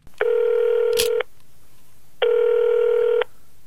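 A telephone ringing tone heard over the line before a North Korean defector's phone call with his future daughter-in-law: two steady, buzzy one-second rings separated by a short pause, loud, with a faint click between them and no voices.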